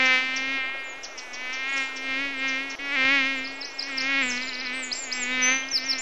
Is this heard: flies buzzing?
yes